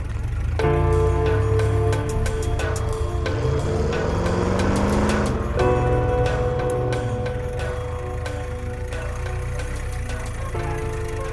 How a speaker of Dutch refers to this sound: Luister, dat zijn jeeps.